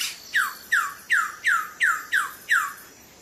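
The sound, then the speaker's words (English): A male Wilson's bird of paradise, a small bird about the size of a starling, calls on the island of Batanta: seven sharp, downward-sweeping squawks in a quick, evenly spaced series, loud and clear against a faint hiss, with no voices. “Wilson's bird of paradise.”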